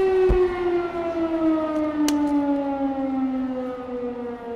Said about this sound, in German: Das war jetzt also eine Sirene, die ich aufgezeichnet hatte, also ganz physisch.